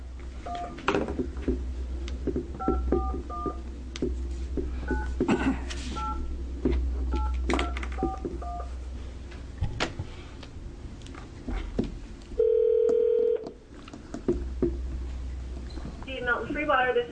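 Telephone keypad dialing for a speakerphone call to the mayor of Milton Fillmore during a House Healthcare Committee hearing: a string of about a dozen short, mid-pitched two-tone beeps in uneven rhythm over a low hum and background clatter, followed by a steady, longer electronic tone.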